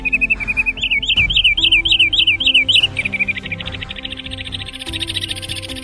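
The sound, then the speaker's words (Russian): A wood sandpiper gives a quick run of about nine bright, high whistled notes in an even rhythm. Other birds chatter faintly and continuously behind it, with no talking. “Сейчас вы можете слышать голос одного из куликов – фифи.”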